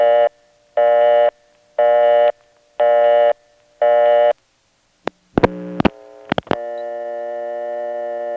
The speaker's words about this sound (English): At the end of a normal local call, you do get collect or return, and that is the same as in prepay operation, 130 volts. But after the collect or return, you just get another dial tone, instead of going to a dead line again.